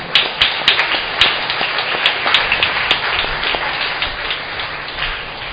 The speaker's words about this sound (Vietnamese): Chúng tôi xin được một cái lời cảm ơn đến ca đoàn Thánh Tâm, một ca đoàn rất là khiêm nhường, âm thầm trong công việc phục vụ, và cũng là đang trên từng bước để mỗi ngày hát hay hơn. Nên là chúng ta cảm ơn bằng một tràng vỗ tay thật lớn.